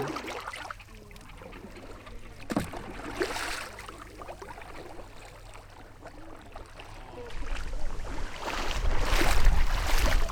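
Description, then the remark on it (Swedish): Water sloshes and trickles as a kayak paddle dips and pulls in a bay, with irregular splashing strokes that grow louder and fuller toward the end. “Vi kan väl paddla lite i viken och komma in i den.”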